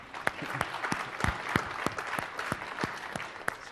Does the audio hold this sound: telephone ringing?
no